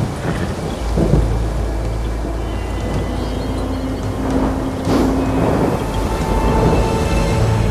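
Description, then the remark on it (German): A thunderstorm with steady, heavy rain and deep rolling thunder rumbling through the low end, swelling loudly around the middle and continuing to the end. No one speaks. “der längst den aufziehenden Sturm wittert.”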